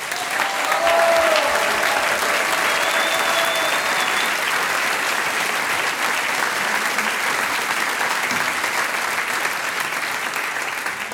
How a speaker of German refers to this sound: Seit nicht allzu langer Zeit darf er sich Harmonikasieger 2023 nennen. Riesenapplaus, er hat es ganz großartig gemacht.